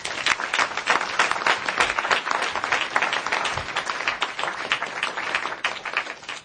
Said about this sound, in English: So please do applaud them.